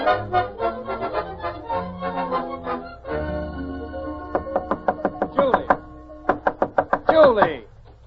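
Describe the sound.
A voice talks briefly, then someone bangs on a lady's bedroom door: a dozen or so loud, sharp knocks in uneven bursts, some quick pairs, running to the end.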